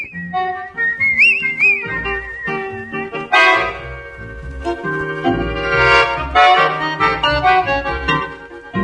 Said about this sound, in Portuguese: Os temas de hoje foram o assobio como instrumento na música popular brasileira